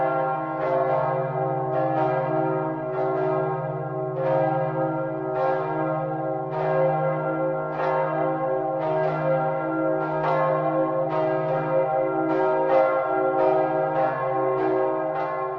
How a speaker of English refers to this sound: Zygmunt is one of four bells at the cathedral, together with Václav from 1542, John the Baptist from 1546, and Josef from 1602.